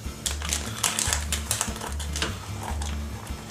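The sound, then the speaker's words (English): Scissors snip repeatedly through a sticky homemade fruit roll-up, cutting it up to serve, a quick series of sharp crisp clicks in an uneven rhythm over a soft, steady low hum. “So all you got to do now is just cut it up with some scissors, and it's good to serve.”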